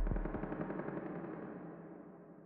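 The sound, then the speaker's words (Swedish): A rapid burst of submachine gun fire rattles out a few hundred metres away, the shots running together before trailing into a fading echo, with no voices present. “Efter en stund hörs ytterligare skottlossning några 100 meter bort.”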